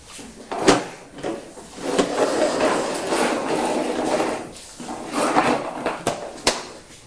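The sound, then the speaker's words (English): A toy truck rolls across a hard floor with a steady, gritty rumble that swells and fades over several seconds, broken by a few sharp clacks and bumps along the way. “This truck sounds quite loud on that floor, doesn't it?”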